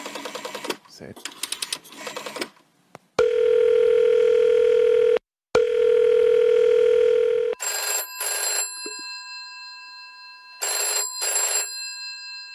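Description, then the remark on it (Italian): A telephone line as a call is placed: clicks of dialing, then a long steady tone broken once, followed by two bright electronic ringing bursts with a pause between, fairly loud, with no one talking yet. “Mamma mia, questo telefono che fatica.”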